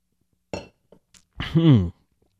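A sharp clink of glass, a few small quiet sipping sounds as the last of a beer is drunk, then a longer voiced exhale like a satisfied sigh after drinking.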